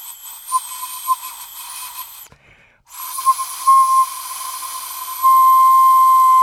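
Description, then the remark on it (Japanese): A breathy, kettle-like whistle holds a steady high tone with a hissing, airy edge, cuts out briefly, then resumes and swells louder and shriller toward the end. No one speaks. “その笛吹きケトルになってますね、 うんうん、音が出ちゃいます ね”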